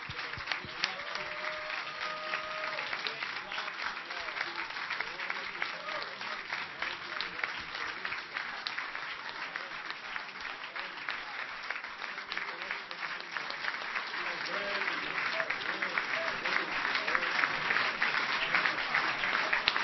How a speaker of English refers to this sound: We were clapping hands to people, but let's now stand up and clap our hands to Lord Jesus.